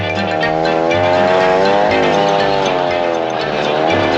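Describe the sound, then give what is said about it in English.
An old car engine runs steadily for several seconds, a loud, rough mechanical drone whose pitch wavers slightly as it idles and revs, with no talking over it. “Yes, that's a very nice machine he bought.”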